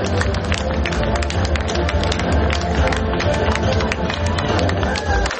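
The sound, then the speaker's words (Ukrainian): An audience at a Ukrainian journalism awards ceremony applauds: dense, steady clapping with a rapid crackle of many hands, loud and even from start to finish, with no voices standing out above it. “Ваші оплески!”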